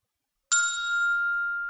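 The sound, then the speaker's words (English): A single bright electronic ding sounds after a moment of silence as a text message is sent from a phone, then rings on with a steady, sustained tone that fades only slightly. “I send a text message to Jimmy.”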